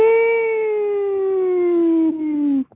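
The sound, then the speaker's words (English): A single voice imitates a four-alarm siren, holding one loud, steady wailing tone for nearly three seconds while the pitch slowly sinks, then cutting off abruptly. “That would have been great to have a four-alarm siren playing, isn't it? I tried to my best to simulate that.”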